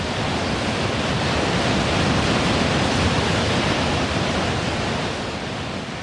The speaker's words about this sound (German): Nur jetzt, zu dieser Jahreszeit, nach der großen Schnee- und Eisschmelze, ergießt sich aus dem nördlichen Aralsee ein breiter, wilder Strom mit Frischwasser über die Wehranlage Richtung Süden in die anderen Teile des krisengeplagten Binnenmeeres.